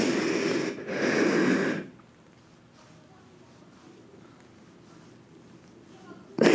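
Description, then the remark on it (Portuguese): Two loud, heavy, rasping nervous breaths in quick succession, followed by several seconds of near silence with faint background noise and a sudden burst at the very end. “Nossa, é a respiração.”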